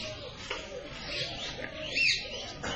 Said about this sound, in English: And so many birds are singing here.